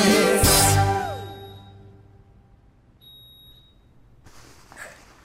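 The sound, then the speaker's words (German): A smoke detector with dead batteries gives a loud, shrill chirp, followed by a few faint, short, high-pitched beeps spaced a second or so apart, with no one speaking. “Oder ist das der Rauchmelder?”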